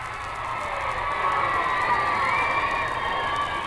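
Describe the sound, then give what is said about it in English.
A large crowd at the White House South Portico cheers steadily as the President, with Mrs. Roosevelt, turns for a final goodbye: a dense roar of many voices with shouts rising above it, loud and sustained throughout without a break. “He turned for a final goodbye to the crowd, and the burst of applause that followed almost told you just exactly what he'd done.”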